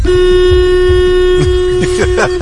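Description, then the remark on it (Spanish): The horn of a Citroën car, pressed hard, blares in one long, steady, loud honk lasting over two seconds, with people speaking faintly underneath toward the end. “Eso debe ser el claxon.”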